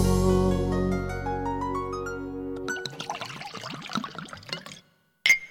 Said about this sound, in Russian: На природе под закуску водка пьется хорошо. За открытие охоты наливай давай еще.